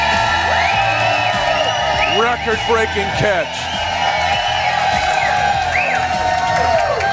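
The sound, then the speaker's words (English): A large crowd at the Nolan Road Hy-Vee location cheers loudly and continuously as the Chiefs regain the lead in an NFL postseason game, with rising whoops and shouts breaking out over the roar, while a man's voice talks briefly over the noise. “You are fired up here at the Nolan Road Hy-Vee location.”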